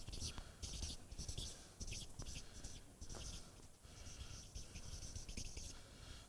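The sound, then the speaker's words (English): A marker squeaks and scratches across paper in a series of quick strokes with brief pauses between them, a faint low murmur underneath. “I need longer paper.”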